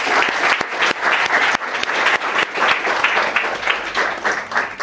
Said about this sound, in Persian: یه بار دیگه خودتون رو لطفاً تشویق بکنید.